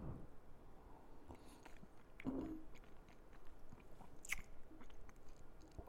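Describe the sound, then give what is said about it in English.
Mouth sounds of someone taking a small sip of 100.1-proof whiskey, with soft wet slurps and a swallow, plus a sharper smack near the end, all at low volume with no talking. “I need another sip.”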